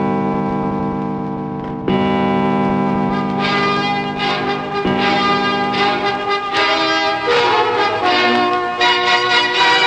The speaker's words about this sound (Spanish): Las 12 campanadas de un año que moría eran 12 advertencias del monstruo que vendría.